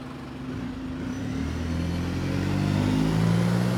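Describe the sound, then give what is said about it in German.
A shuttle bus engine drones steadily, its low rumble gradually growing louder as the bus drives through an opened gate, with no voices. “Als der Bus durch das geöffnete Gitter gefahren war”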